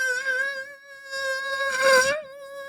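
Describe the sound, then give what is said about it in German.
A voice imitates a mosquito with a sustained, thin, high-pitched whine for about three seconds, fairly loud, briefly growing rougher and breathier near the end before settling back. “Ich höre die überall. Die können 4 Meter weg sein.”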